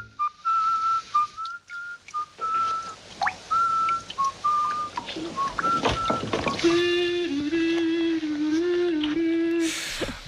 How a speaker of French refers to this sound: qui sifflote et qui chantonne Tifortou dans la grande vadrouille